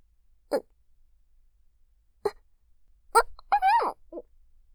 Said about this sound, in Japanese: いや、なんでもないの。しゃっくりが出ちゃってごめんなさい。